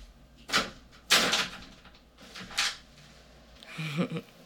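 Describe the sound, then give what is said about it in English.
A door is opened with a few sharp clunks and rattling bursts spread over a few seconds, followed by a softer creak and shuffle; no one speaks. “Open this fucking door or else.”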